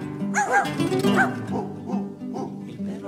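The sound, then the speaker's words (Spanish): A dog barks in a string of short, fairly loud yaps, about five or six in quick succession, with a steady musical tone humming underneath. “Cuando el gato salió a cantar, vino el perro y lo hizo callar.”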